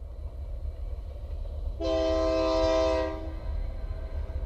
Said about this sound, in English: The sound of the distant train I love. Just really kind of hauntingly beautiful sort of different call of the train as it comes through. Kind of a lonely sound, you know, to hear it, especially at night or in the morning.